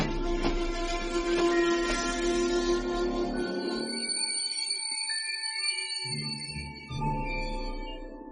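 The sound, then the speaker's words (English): A train rumbles along, then as the driver cuts the engine and slams on the brakes, its brakes give off a sustained high-pitched metallic screech with shifting tones as the rumble drops away and it grinds toward a stop. “I immediately signaled to the driver to stop, and he cut the engine and slammed on the brakes, making the train come to a screeching halt.”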